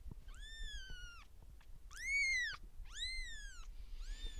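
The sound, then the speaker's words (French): Three high, thin mews in quick succession from a kitten in a bedroom, its eye still opening, each cry rising and falling, with a faint fourth cry trailing off at the end over a quiet background. “On enregistre dans ma chambre, c'est pas uniquement parce que la chambre est loin de la rue, c'est aussi parce que c'est là où il y a les chatons.”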